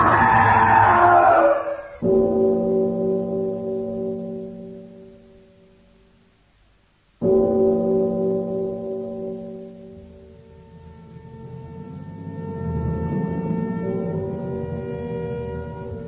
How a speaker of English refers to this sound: When the alarm bell of the judge's house sounds out across the countryside, a startled, huddled crowd assembles